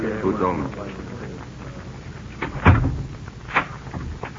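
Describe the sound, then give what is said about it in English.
A brief murmur of voices, then a solid thud as a door shuts, followed about a second later by a single sharp metallic click of a lock being turned. “Why lock the door?”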